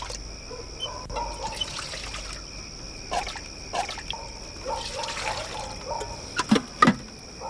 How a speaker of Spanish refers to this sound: El lechero llena el recipiente de Mundu.